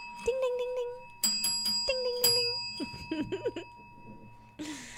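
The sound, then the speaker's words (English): A bright notification-style bell dings a couple of times, its clear metallic tone ringing on steadily while a voice makes short sounds underneath, fairly loud. “Make sure to like, subscribe, and hit that notification bell.”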